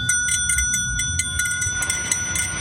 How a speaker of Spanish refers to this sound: Donde quiera que esté su pensamiento, escuchará el tañer de esta campana.